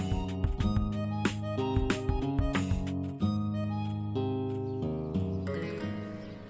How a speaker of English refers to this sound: One thing about Sodeto, there are birds, a lot of them. Luckily, this is also one of the things I'm able to say in Spanish. Pájaros. Sí. Muchos.